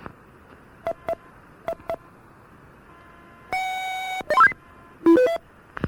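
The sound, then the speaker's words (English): Touch-tone paging tones sent over a radio channel to beep a person's pager: four short evenly spaced beeps, then a longer steady tone and a few quick warbling bursts, clear against a faint hiss. “Let me beep his pager.”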